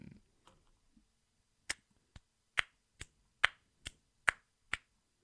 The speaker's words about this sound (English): You get a little clap. That's all you got. That's it. That's all you got. Sounded for me. Like some snaps instead of claps. Yeah, that didn't sound like claps.